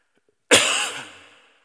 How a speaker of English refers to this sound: Future note, cough this way, not that way, into the microphone.